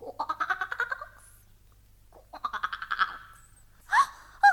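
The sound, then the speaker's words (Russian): A voice imitates a toad's croaking in two rapid, rattling bursts, followed by a couple of brief high squeaks, fairly loud against a quiet background. “в разбитое окно вскочила отвратительная жаба, большая и мокрая.”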